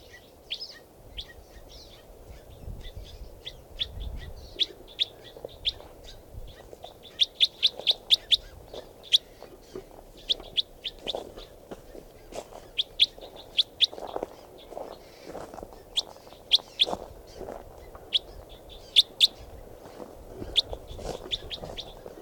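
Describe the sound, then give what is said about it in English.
Several birds call repeatedly in quick, overlapping bursts of high, sharp chirps, with a softer, lower chatter of calls running underneath throughout. “And there's one more bird in the flock calling here.”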